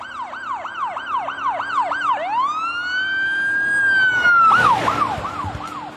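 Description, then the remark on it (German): A police siren on an unmarked car with a blue light blares as it races along Broadway, switching from a rapid yelping warble to a long rising wail and back to quick yelps, over a low rumble of traffic. “als sie im Zivilwagen mit Blaulicht und Sirene über den Broadway rasten.”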